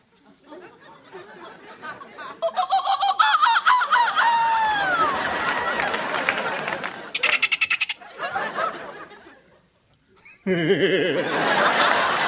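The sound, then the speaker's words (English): A man's voice imitates the honking call of a bird he calls a Colombian peckerhead, loud, in a rapid run of squawking, goose-like honks; after a short silence he bursts into another raucous volley. “I know 17 different bird calls.”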